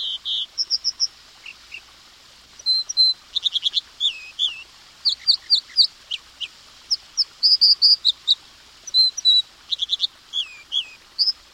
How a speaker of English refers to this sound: Other songbirds to listen and watch for are American dipper, a year-round resident found along freshwater streams.